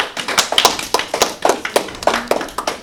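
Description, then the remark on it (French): A short burst of clapping from a small group, the sharp claps coming in a quick, slightly uneven rhythm at a steady, moderate loudness with no one talking, applauding a correct answer in a quiz. “Alors, c'est une bonne réponse. On peut les applaudir.”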